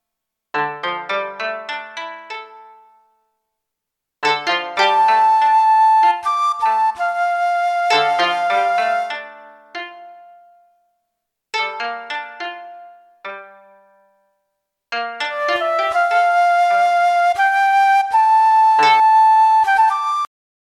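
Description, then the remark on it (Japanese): A flute plays a sustained, flowing melody in two long phrases, alternating with short bursts of plucked, quickly decaying koto notes. No voices are heard. “どこからともなく、美しい笛の音が聞こえてきたのでありました。”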